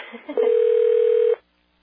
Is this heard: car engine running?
no